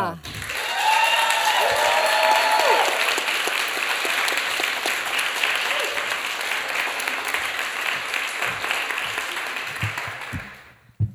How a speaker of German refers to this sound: Und ihr dürft unsere letzte Starterin der zweiten Runde ans Mikrofon klatschen mit einem 10-Punkte-Applaus.